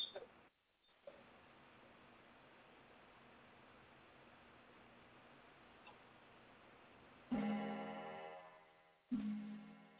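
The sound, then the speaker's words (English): A clock ticks quietly beneath a steady hiss, followed near the end by two louder, ringing tones that start abruptly and slowly fade. No one speaks. “He's talking to you through that clock.”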